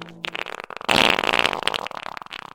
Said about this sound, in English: And now, the Thursday Fart of the Day.